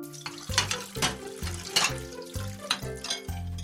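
After a meal, dishes are put in a sink: water runs steadily from a tap into the sink while dishes clatter and clink in a series of sharp bursts, over a low, even hum.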